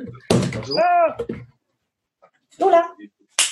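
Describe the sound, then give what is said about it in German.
A dull door thump, then a dog, a two-year-old female mixed breed whose father is a Labradoodle, whines at the door in two short, high, wavering bursts separated by a pause, ending with a brief hiss of noise. “Mein Hund fiept vor der Tür.”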